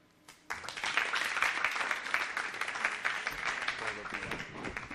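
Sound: audience applause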